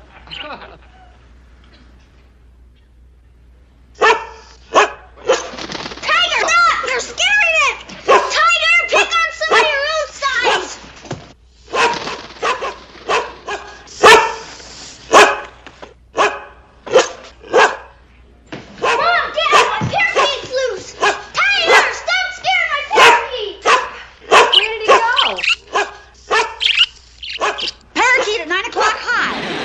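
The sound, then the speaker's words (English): A dog named Tiger barks over and over in loud bursts, some yelping and high-pitched, continuing almost nonstop after a few quiet seconds at the start. “Tiger, be quiet.”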